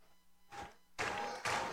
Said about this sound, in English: Fans clapping, stomping, trying to cheer on Rogers.